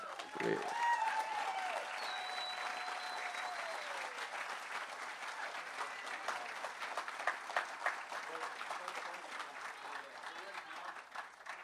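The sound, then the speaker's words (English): A crowd breaks into sustained applause, a dense steady patter of clapping that holds at an even loudness for over ten seconds, with a few cheers and whoops mixed in early on. “they deserve a round of applause, too.”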